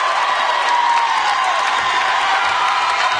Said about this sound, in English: The crowd with an ovation. Conference champs. Western Panthers girls are your Interstate 8 Conference Championships 2020.